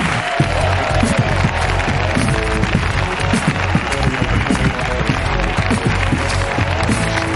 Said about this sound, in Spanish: Así que pido un aplauso para Nacho Vigalondo en la Resistencia.